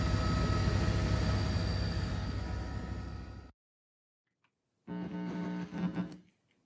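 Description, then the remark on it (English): Loud helicopter engine and rotor noise roars steadily for a few seconds over Tacloban, cuts to silence, then returns briefly with a droning, humming tone before fading out. “This is what I saw from the helicopter.”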